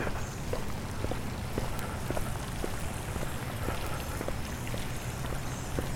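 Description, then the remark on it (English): A faint, steady trickle of water under a bridge: a soft continuous wash scattered with small irregular drips and ticks, with no one speaking. “I can still hear a little bit, but I'm going across the bridge right now. Just a trickle, really.”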